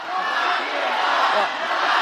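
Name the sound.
rally crowd chanting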